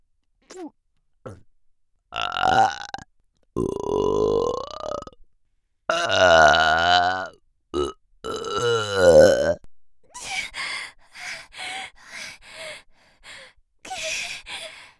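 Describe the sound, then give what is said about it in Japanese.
A series of long, loud, rumbling burps, several drawn out and wavering, separated by brief pauses and followed by shorter, choppier belches and breathy sounds. “いくらゲップを垂れようとも、私は私であり続ける。”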